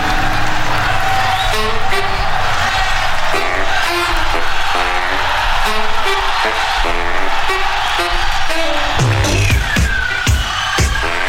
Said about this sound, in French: cette foule en délire qui a visiblement décidé, quitte à mourir, à le faire en chantant, en dansant, en faisant la fête.